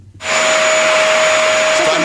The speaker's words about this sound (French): Balayeuse, bonne réponse. Je l'ai dit même précis, c'est pas la balayeuse de tableau. Oui, c'est moi qui l'ai enregistré en fin de semaine parce que ça a duré 4 heures.